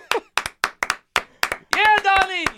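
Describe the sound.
Roughly a dozen sharp, uneven hand claps, then a single voice lets out a loud, drawn-out whooping cheer while the clapping continues underneath, mimicking a crowd going wild.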